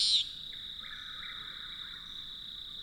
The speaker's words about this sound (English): Moving on to the far end of the clearing, we encounter another nightjar that feeds on the wing, a common nighthawk, recognized by its raspy nasal buzz.